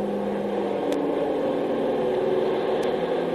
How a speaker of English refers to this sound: That's the third Navy plane I've seen over the island in the last 24 hours. I don't know why they're hanging around so much.